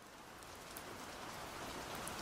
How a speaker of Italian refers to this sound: Un giorno di pioggia alla fine del 2012